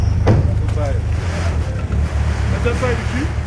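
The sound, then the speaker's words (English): A car engine drones and strains steadily while water sloshes and splashes around it as the car is stuck in one of the big water-filled potholes in a capital city, with gusty wind noise throughout. “unfortunately the car is stuck in one of the big potholes.”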